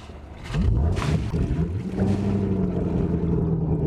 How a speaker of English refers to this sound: Chris Crafts are known for that throaty kind of Harley Davidson kind of sound, deep and rumbly and powerful.